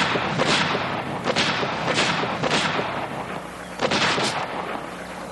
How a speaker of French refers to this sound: Ça donnerait quoi s'il y avait des balles dans ce joujou? Il y en a. Couchez-vous!